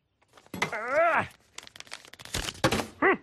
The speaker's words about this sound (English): Can we have the letter? Yeah. It's right here. I'll just put it through the mail slot.